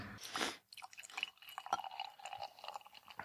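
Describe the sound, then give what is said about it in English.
Beer, an IPA from a Sierra Nevada variety pack, pours into a glass, starting with a brief gush and settling into a fizzy, crackling stream with small splashy bursts, no voices. “Middle pour. Saw one of my favorite beer styles in the fridge, so I had to open it.”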